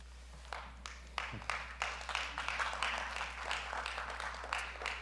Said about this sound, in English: All the clapping is for Jesus Christ, always. It's never for the one up here, it's for him.